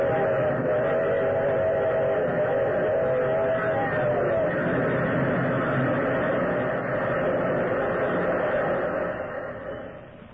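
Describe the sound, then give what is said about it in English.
A locomotive thunders past, a loud, continuous roaring rumble with a faint whistle-like tone early on, holding steady before fading away at the very end. “The thunderous locomotive, McGregor, transfixed with horror, and the eerie, gesticulating thing. And then the engine was upon it.”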